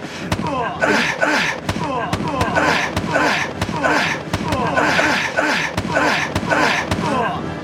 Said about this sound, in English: Did that sound at all interesting? Yeah, it was a little bit interesting. Is it possible to mix that in with some other punches? Or like, are those like... Those are the only two punches I have.